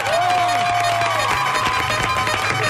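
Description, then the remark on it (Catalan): A group of fifth-grade primary schoolchildren from the Antoni Brusi school in Barcelona claps loudly and steadily throughout, a dense wash of applause with high shouts and cheers rising over it. “Aplaudeixen de l'escola Antoni Brusi, cinquè de primària.”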